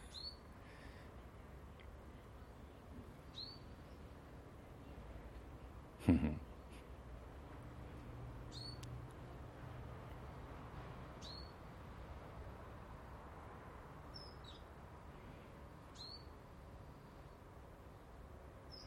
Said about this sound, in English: Hello, Blackbird. Are you the one? Probably not, the way you're skulking. You're a skulking blackbird.